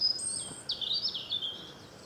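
Birds chirp continuously in high, thin trills at a wetland lagoon beside the Albufera, with a brief pause before a second run of rapid twittering, moderately faint and outdoors with no voices.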